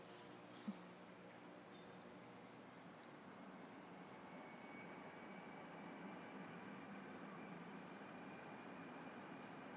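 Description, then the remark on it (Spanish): A steady, low rumble of a tram in the distance, heard from a garden, holding a broad, even drone for the whole stretch with no voices, only a brief faint click near the start. “Un tranvía que se oye desde lejos.”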